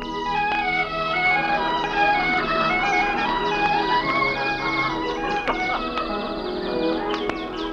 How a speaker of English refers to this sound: The sun is just rising over the snow-capped mountains. Birds are twittering in the giant redwoods.